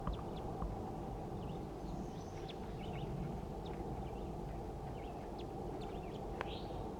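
A wild male bird gives scattered, quick chittering call notes at an irregular pace, fairly faint, over a steady outdoor background rumble.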